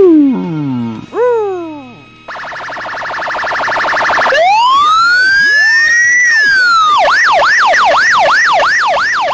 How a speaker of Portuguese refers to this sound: Aí o que acontece? Coloca o barulho de sirene aí. O que aconteceu?